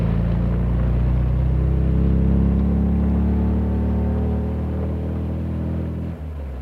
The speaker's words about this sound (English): Is the sports car passing us? Yes, it is. It's passing the end of the lane. It's in front of us now.